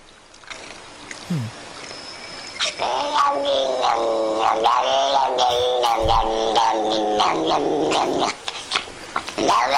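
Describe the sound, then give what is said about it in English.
A male cat lets out strange, drawn-out growling yowls, loud, wavering in pitch almost continuously for several seconds after a brief quieter start, while being brushed with a little scratchy brush. “cat making weird noises”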